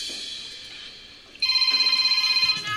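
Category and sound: signal or alarm, mobile phone ringtone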